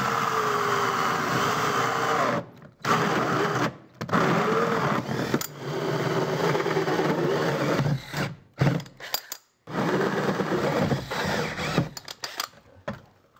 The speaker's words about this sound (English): All right, and now that we've drilled our holes, the next thing we want to do is go ahead and clear all the debris from the holes, and then we'll be ready to put some water in it, make sure everything's watertight.